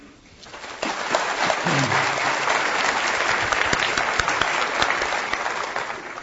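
An audience bursts into steady applause, a dense wash of clapping that swells quickly and holds loud for several seconds, with a few brief murmurs of voices mixed in before it begins to taper.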